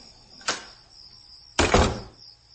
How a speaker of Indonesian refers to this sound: Setelah semua selesai, aku pun mulai beranjak dari kursi dan menutup pintu ruangan ini.